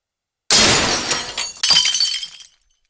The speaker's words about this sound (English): He takes the broom and runs to June's shop. Then he points it at the shop window. The glass breaks and lots of cartons and bottles fly in all directions.